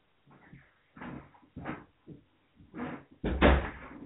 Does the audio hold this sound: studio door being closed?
yes